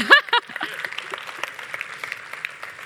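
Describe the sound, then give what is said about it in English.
A room full of people claps for Jesus in a dense, continuous patter, with a brief raised voice or cheer at the very start before the applause carries on alone. “And this morning, we can clap for Jesus.”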